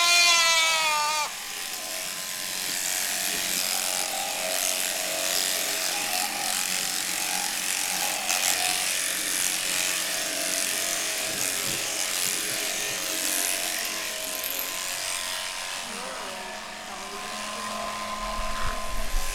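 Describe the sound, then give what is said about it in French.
Electric shears buzz steadily for the whole stretch as a goat is clipped, the motor's whine wavering slightly as the blades move through the fleece. “comment elles se sentent, les chèvres, l'après-midi ou le lendemain d'une tonte?”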